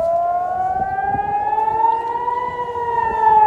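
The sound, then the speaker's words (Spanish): Air raid sirens in northern Israel, warning of a ballistic missile attack from Iran, wail in a steady, sustained tone, their pitch rising slowly over a low rumble, loud and continuous throughout with no voices present. “las alertas están sonando ahora mismo en todo el norte de Israel”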